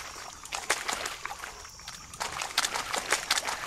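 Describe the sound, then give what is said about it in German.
Wet, sloppy squelching of swamp mud in a video game, in irregular bursts, fairly loud, with a steady background hiss and no voices. “Der Sumpf, der schmatzt auch immer so schön.”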